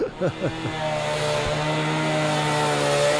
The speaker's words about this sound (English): I just vision what I want to see, and then I might scratch a little bit of it on there to get my bearings, and then it's all over after that with the chainsaw. It happens pretty quick, you know.